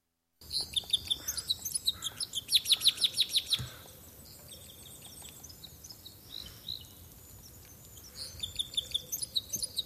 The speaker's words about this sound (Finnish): Tällä viikolla radion luontoäänenä esiintyy iso käpylintu.